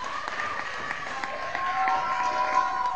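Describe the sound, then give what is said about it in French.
An audience applauds and cheers at the end of a four-hour performance, a steady wash of clapping mixed with raised voices and whoops that swells slightly louder partway through and keeps going for the whole stretch. “4 heures et le public a tenu le coup. On peut les applaudir aussi.”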